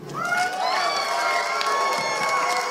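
An audience cheers and whoops loudly and steadily as a female performer from Las Vegas is brought to the stage, many voices overlapping in high excited shouts, with scattered clapping mixed in throughout.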